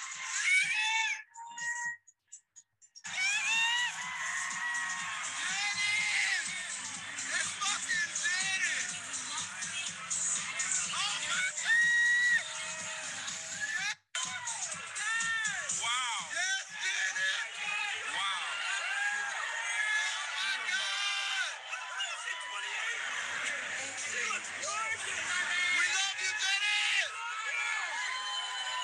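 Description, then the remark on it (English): A woman fan right by the stage screams excitedly and nonstop, high-pitched shrieks rising and falling over a roaring, cheering crowd, with only a couple of brief breaks, on seeing a performer in person for the first time. “Like, why am I screaming like that?”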